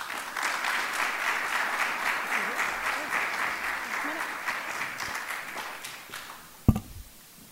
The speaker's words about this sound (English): as the person who actually built this, please join me in giving a very warm round of applause